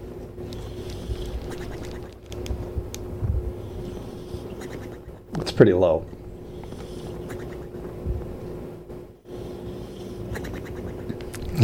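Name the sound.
dog snoring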